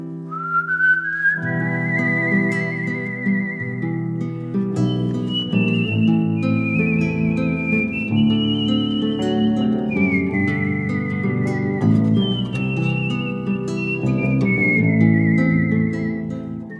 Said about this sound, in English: and I feel so lucky because she didn't just welcome me into the world of whistling. She also performed some tunes live.